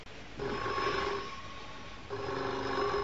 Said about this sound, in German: Ja, schon seit das blöde Telefon soll klingeln, ich geh gar nicht mehr. Ist aber der ganze Hartnäckige. Herrschaftszeiten, ich bin nicht da.